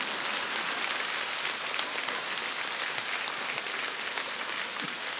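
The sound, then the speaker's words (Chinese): A crowd applauds steadily, a dense, even wash of many hands clapping that holds at a constant loudness throughout, with no voices over it. “而我们现在的人连笑都是这么吝啬，连鼓掌都是这么吝啬。”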